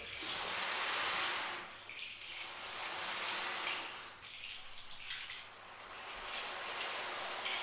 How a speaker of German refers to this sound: Ich schaue auf das Wasser. Wie es sprudelt.